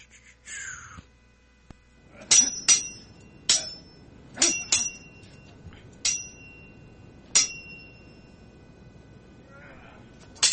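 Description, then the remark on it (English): Sword clanging sound effects: sharp metallic clangs ring out in a quick irregular series, about eight bright strikes with ringing high tails, some doubled, fairly loud over a low background hiss. “Where's my sword ratchetness sound effects?”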